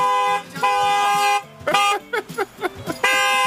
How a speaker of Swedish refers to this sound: Här har vi en röd bil med en jättebra tuta.